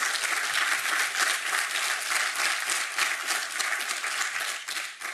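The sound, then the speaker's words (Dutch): Loud, sustained applause from an audience, a dense wash of many hands clapping at once that holds steady for several seconds before easing slightly at the end, marking the official appointment of a children's mayor. “Dan ben jij nu officieel benoemd met luid applaus.”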